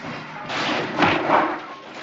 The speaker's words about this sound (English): What was that? That, I imagine, was Nicholas punching Ira out.